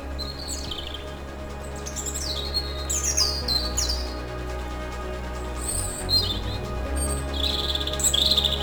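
Birds chirp outdoors in quick, bright bursts, several calls overlapping, over a steady low hum and faint insect-like buzz, with no one talking.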